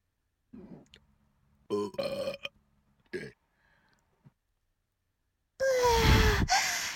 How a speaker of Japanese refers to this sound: うー、出るよ。ゲップ出る。ゲップ出る。ゲップ出る。